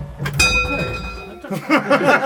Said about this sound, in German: Und eine Glocke hast du da auch noch? Ja, die, wenn die volle Uhr ist, geht's hier.